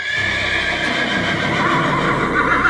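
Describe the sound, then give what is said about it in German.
A king's horse, frightened by an elephant, whinnies loudly and shrilly, its agitated neigh sustained across the whole moment, with faint hoof clatter beneath and no voices. “Der Königspferd hat sich sehr stark erschrocken davon.”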